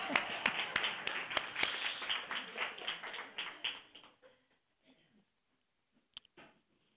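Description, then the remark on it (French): A crowd applauds with dense, crackling clapping for about four seconds, individual sharp claps standing out, before it fades to near silence with a lone faint knock afterward. “Vous pouvez nous applaudir.”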